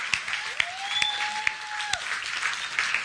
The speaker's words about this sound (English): Yeah, we can clap.